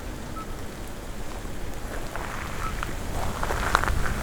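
Steady light rain after a thunderstorm patters continuously over a broad hiss by a lake, with scattered brief chirps like frogs calling faintly. No voices are heard.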